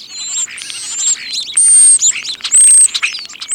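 Starlings chatter in a busy, unbroken stream of clicks, rattles and squeaky notes, broken by a few long, thin, high whistles. No one speaks.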